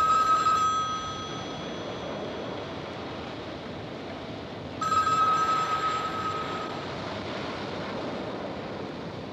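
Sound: telephones ringing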